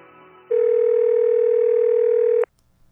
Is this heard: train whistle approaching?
no